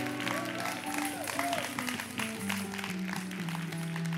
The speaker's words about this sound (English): Give the worship team a big applause.